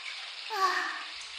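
A shower runs in a steady, hissing spray of water rinsing off soap foam, holding an even level throughout, with a brief faint tonal murmur partway through.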